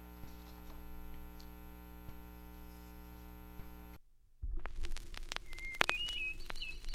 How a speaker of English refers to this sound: American Bird Songs, Volume 1. Here are the songs and calls of 60 familiar birds, as recorded in the woods, fields, and gardens of North America by the Laboratory of Ornithology at Cornell University.